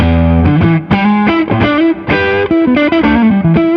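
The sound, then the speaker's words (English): Overdriven electric guitar through a Gen Ray overdrive pedal with the gain raised from under 9 o'clock to 12 o'clock, playing a quick bluesy lick of bent single notes and double stops, thick and harmonically rich, loud and steady with no voices. “The only thing I would usually do with the Gen Ray is maybe increase the gain”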